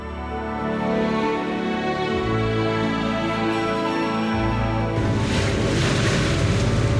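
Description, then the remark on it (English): Wind and waves aboard a newly rebuilt 100-year-old wooden sailing ketch on a trip from Cork to Kinsale on a cold, wet and windy day: a steady, loud rushing wash with a low droning hum underneath, swelling into a broader surge of spray midway through. No voices. “On tonight's programme, I'll be taking a trip in bad weather from Cork to Kinsale on a newly rebuilt 100-year-old boat.”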